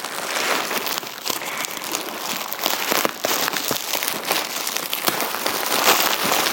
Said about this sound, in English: Right, I've taken out some packing. There is a large bubble wrap parcel in here. Gosh, this parcel, I'm sure it's bigger than Aussie was. Oh my gosh. Lots of bubble paper.